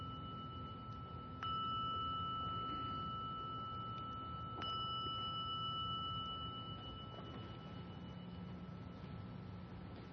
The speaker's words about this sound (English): Sensing that when you hear the sounding of the gong, that you can bring this relaxed attentiveness into a continued listening.